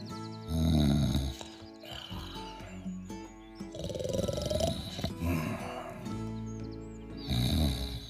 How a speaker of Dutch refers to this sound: Alex lag lekker te snurken in zijn warme bed van bladeren.